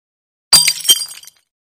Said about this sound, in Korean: 병 하나가 떨어져 깨졌다. 유리 조각 하나가 그레고르 얼굴에 상처를 입혔고 무슨 부식재 같은 것이 그에게 튀었다.